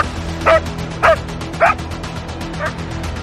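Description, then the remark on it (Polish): A rescue dog barks to alert, four times in a steady, evenly spaced rhythm, the first three loud and sharp, the last one softer, over a low constant background hum. “Poznawaliśmy te zachowania psów, jakie są pomiędzy nimi różnice, jak one oznaczają też osoby poszkodowane, bo jedne meldują, inne szczekają”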